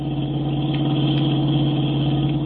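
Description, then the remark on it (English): A car engine drones loudly and continuously as a woman drives, speeding up and weaving all over the road: a low, steady hum with a rough buzzing edge that holds its pitch throughout, with no voices. “She's speeding up.”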